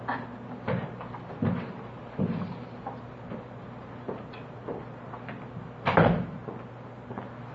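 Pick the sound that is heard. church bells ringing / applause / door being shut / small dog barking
door being shut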